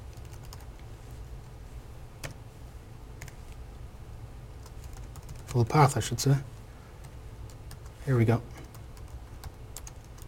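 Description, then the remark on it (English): Soft, rapid clicking of keys on a computer keyboard runs steadily throughout while a man talks in two short bursts over the typing, as he types a full name for driver packages. “Because here I am typing and I could make mistakes, and a typo in something like this will mean that it probably won't work.”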